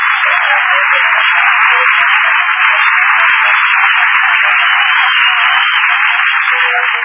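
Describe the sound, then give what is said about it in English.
A studio audience applauds steadily for several seconds, a dense, loud wash of clapping that holds without pause, with a thin, muffled tone like an old broadcast recording. “Nobody was supposed to applaud there.”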